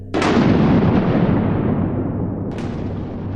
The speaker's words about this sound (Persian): یه دفعه یه رعد و برق بزرگتر زد.